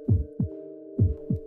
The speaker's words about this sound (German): Ich hörte meine eigenen Gedanken nicht, so laut klopfte mein Herz.